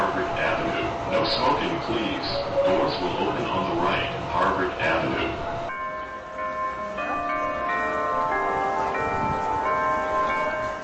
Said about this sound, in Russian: На углу Тремонт и Скул-стрит всегда оживленно. Кто-то слушает перезвон колоколов у церкви Кингс-Чапел, первой англиканской церкви в Бостоне